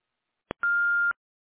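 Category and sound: signal or alarm, voicemail recording beep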